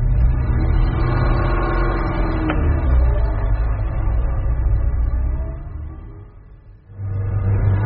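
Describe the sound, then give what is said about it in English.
A car engine hums steadily as the vehicle drives along, a continuous low rumble that briefly eases and quietens near the end before picking back up. No one speaks. “Stop the car.”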